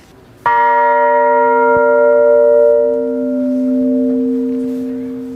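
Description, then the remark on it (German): A single church bell strike rings out clearly, its deep hum on the note B and layered overtones sustaining and slowly fading over several seconds with no other sounds. “Hier zum Beispiel die Glocke hat den Ton B.”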